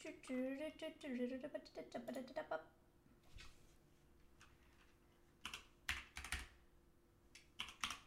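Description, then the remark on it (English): Someone types on a computer keyboard in short, uneven bursts of sharp clicks after a brief voice at the start, with quiet pauses between the flurries of keystrokes. “You can hear it in the keys.”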